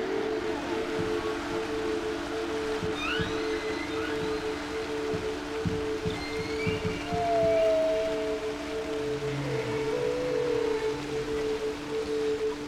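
Whale calls from Henry the Hudson Whale in the Hudson River: faint rising whistles and a longer mid-pitched moan drift over a steady underwater hum with scattered low knocks, like a recording made beneath the surface.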